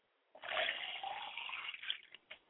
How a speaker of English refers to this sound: I now pour libations to the north. I say ashe.